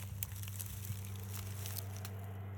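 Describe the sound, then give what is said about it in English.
A large beaver at a riverbank hisses in a series of rough, crackly, breathy bursts over a steady low hum, fairly quiet throughout, with no one talking. “Oh, hear him hiss? He does not like me.”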